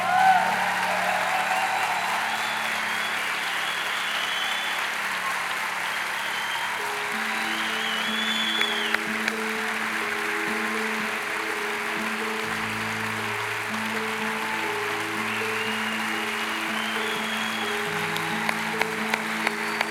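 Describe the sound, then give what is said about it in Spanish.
Steady applause from a church audience for people about to be baptized, lasting about twenty seconds, a dense wash of clapping, while sustained keyboard or organ chords come in underneath partway through. “Denle un aplauso, que se van a bautizar.”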